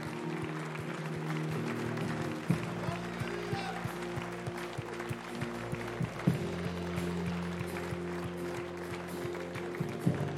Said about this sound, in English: And also, if you believe that with me, just give God a hand clap of praise in this house.